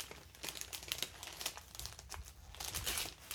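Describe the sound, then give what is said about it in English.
Christmas wrapping paper crinkles and rustles in quick, irregular bursts, a continuous crackly handling sound with brief sharper crunches, heard alone without any voices. “I like the paper. It's old school Christmas.”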